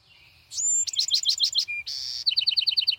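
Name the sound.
songbird singing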